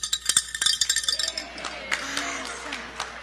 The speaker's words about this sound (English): he's just going to ring the bell. You want to ring the bell?